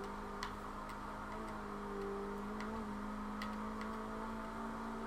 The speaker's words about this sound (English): Alright, ready? I'm gonna burn out and do a rolling start.